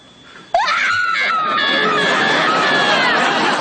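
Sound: person screaming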